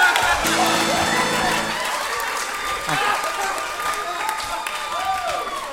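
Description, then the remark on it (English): An audience applauds steadily for several seconds, a dense, fairly loud wash of clapping with a few shouts and crowd voices mixed in. “So it's what they're saying with their applause every time.”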